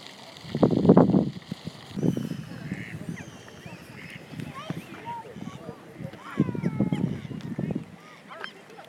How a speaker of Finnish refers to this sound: Tässä kuuluu taas näitä lintujen ääniä aika hyvin.